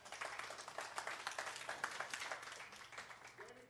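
An audience applauds with dense, steady clapping that holds at an even level for several seconds before easing slightly toward the end, with a faint voice underneath.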